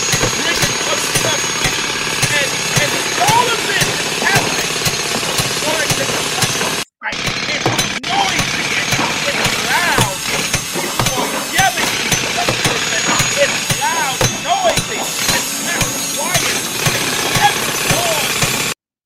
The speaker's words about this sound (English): To a construction site, it's loud and messy, and it's everywhere. Tools are everywhere, people, bodies everywhere. It's not an ideal thing. You have bulldozers moving dirt, excavators digging dirt, dump trucks hauling loads in and carrying loads out,